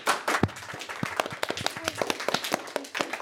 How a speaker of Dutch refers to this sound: Geef ze een groot applaus.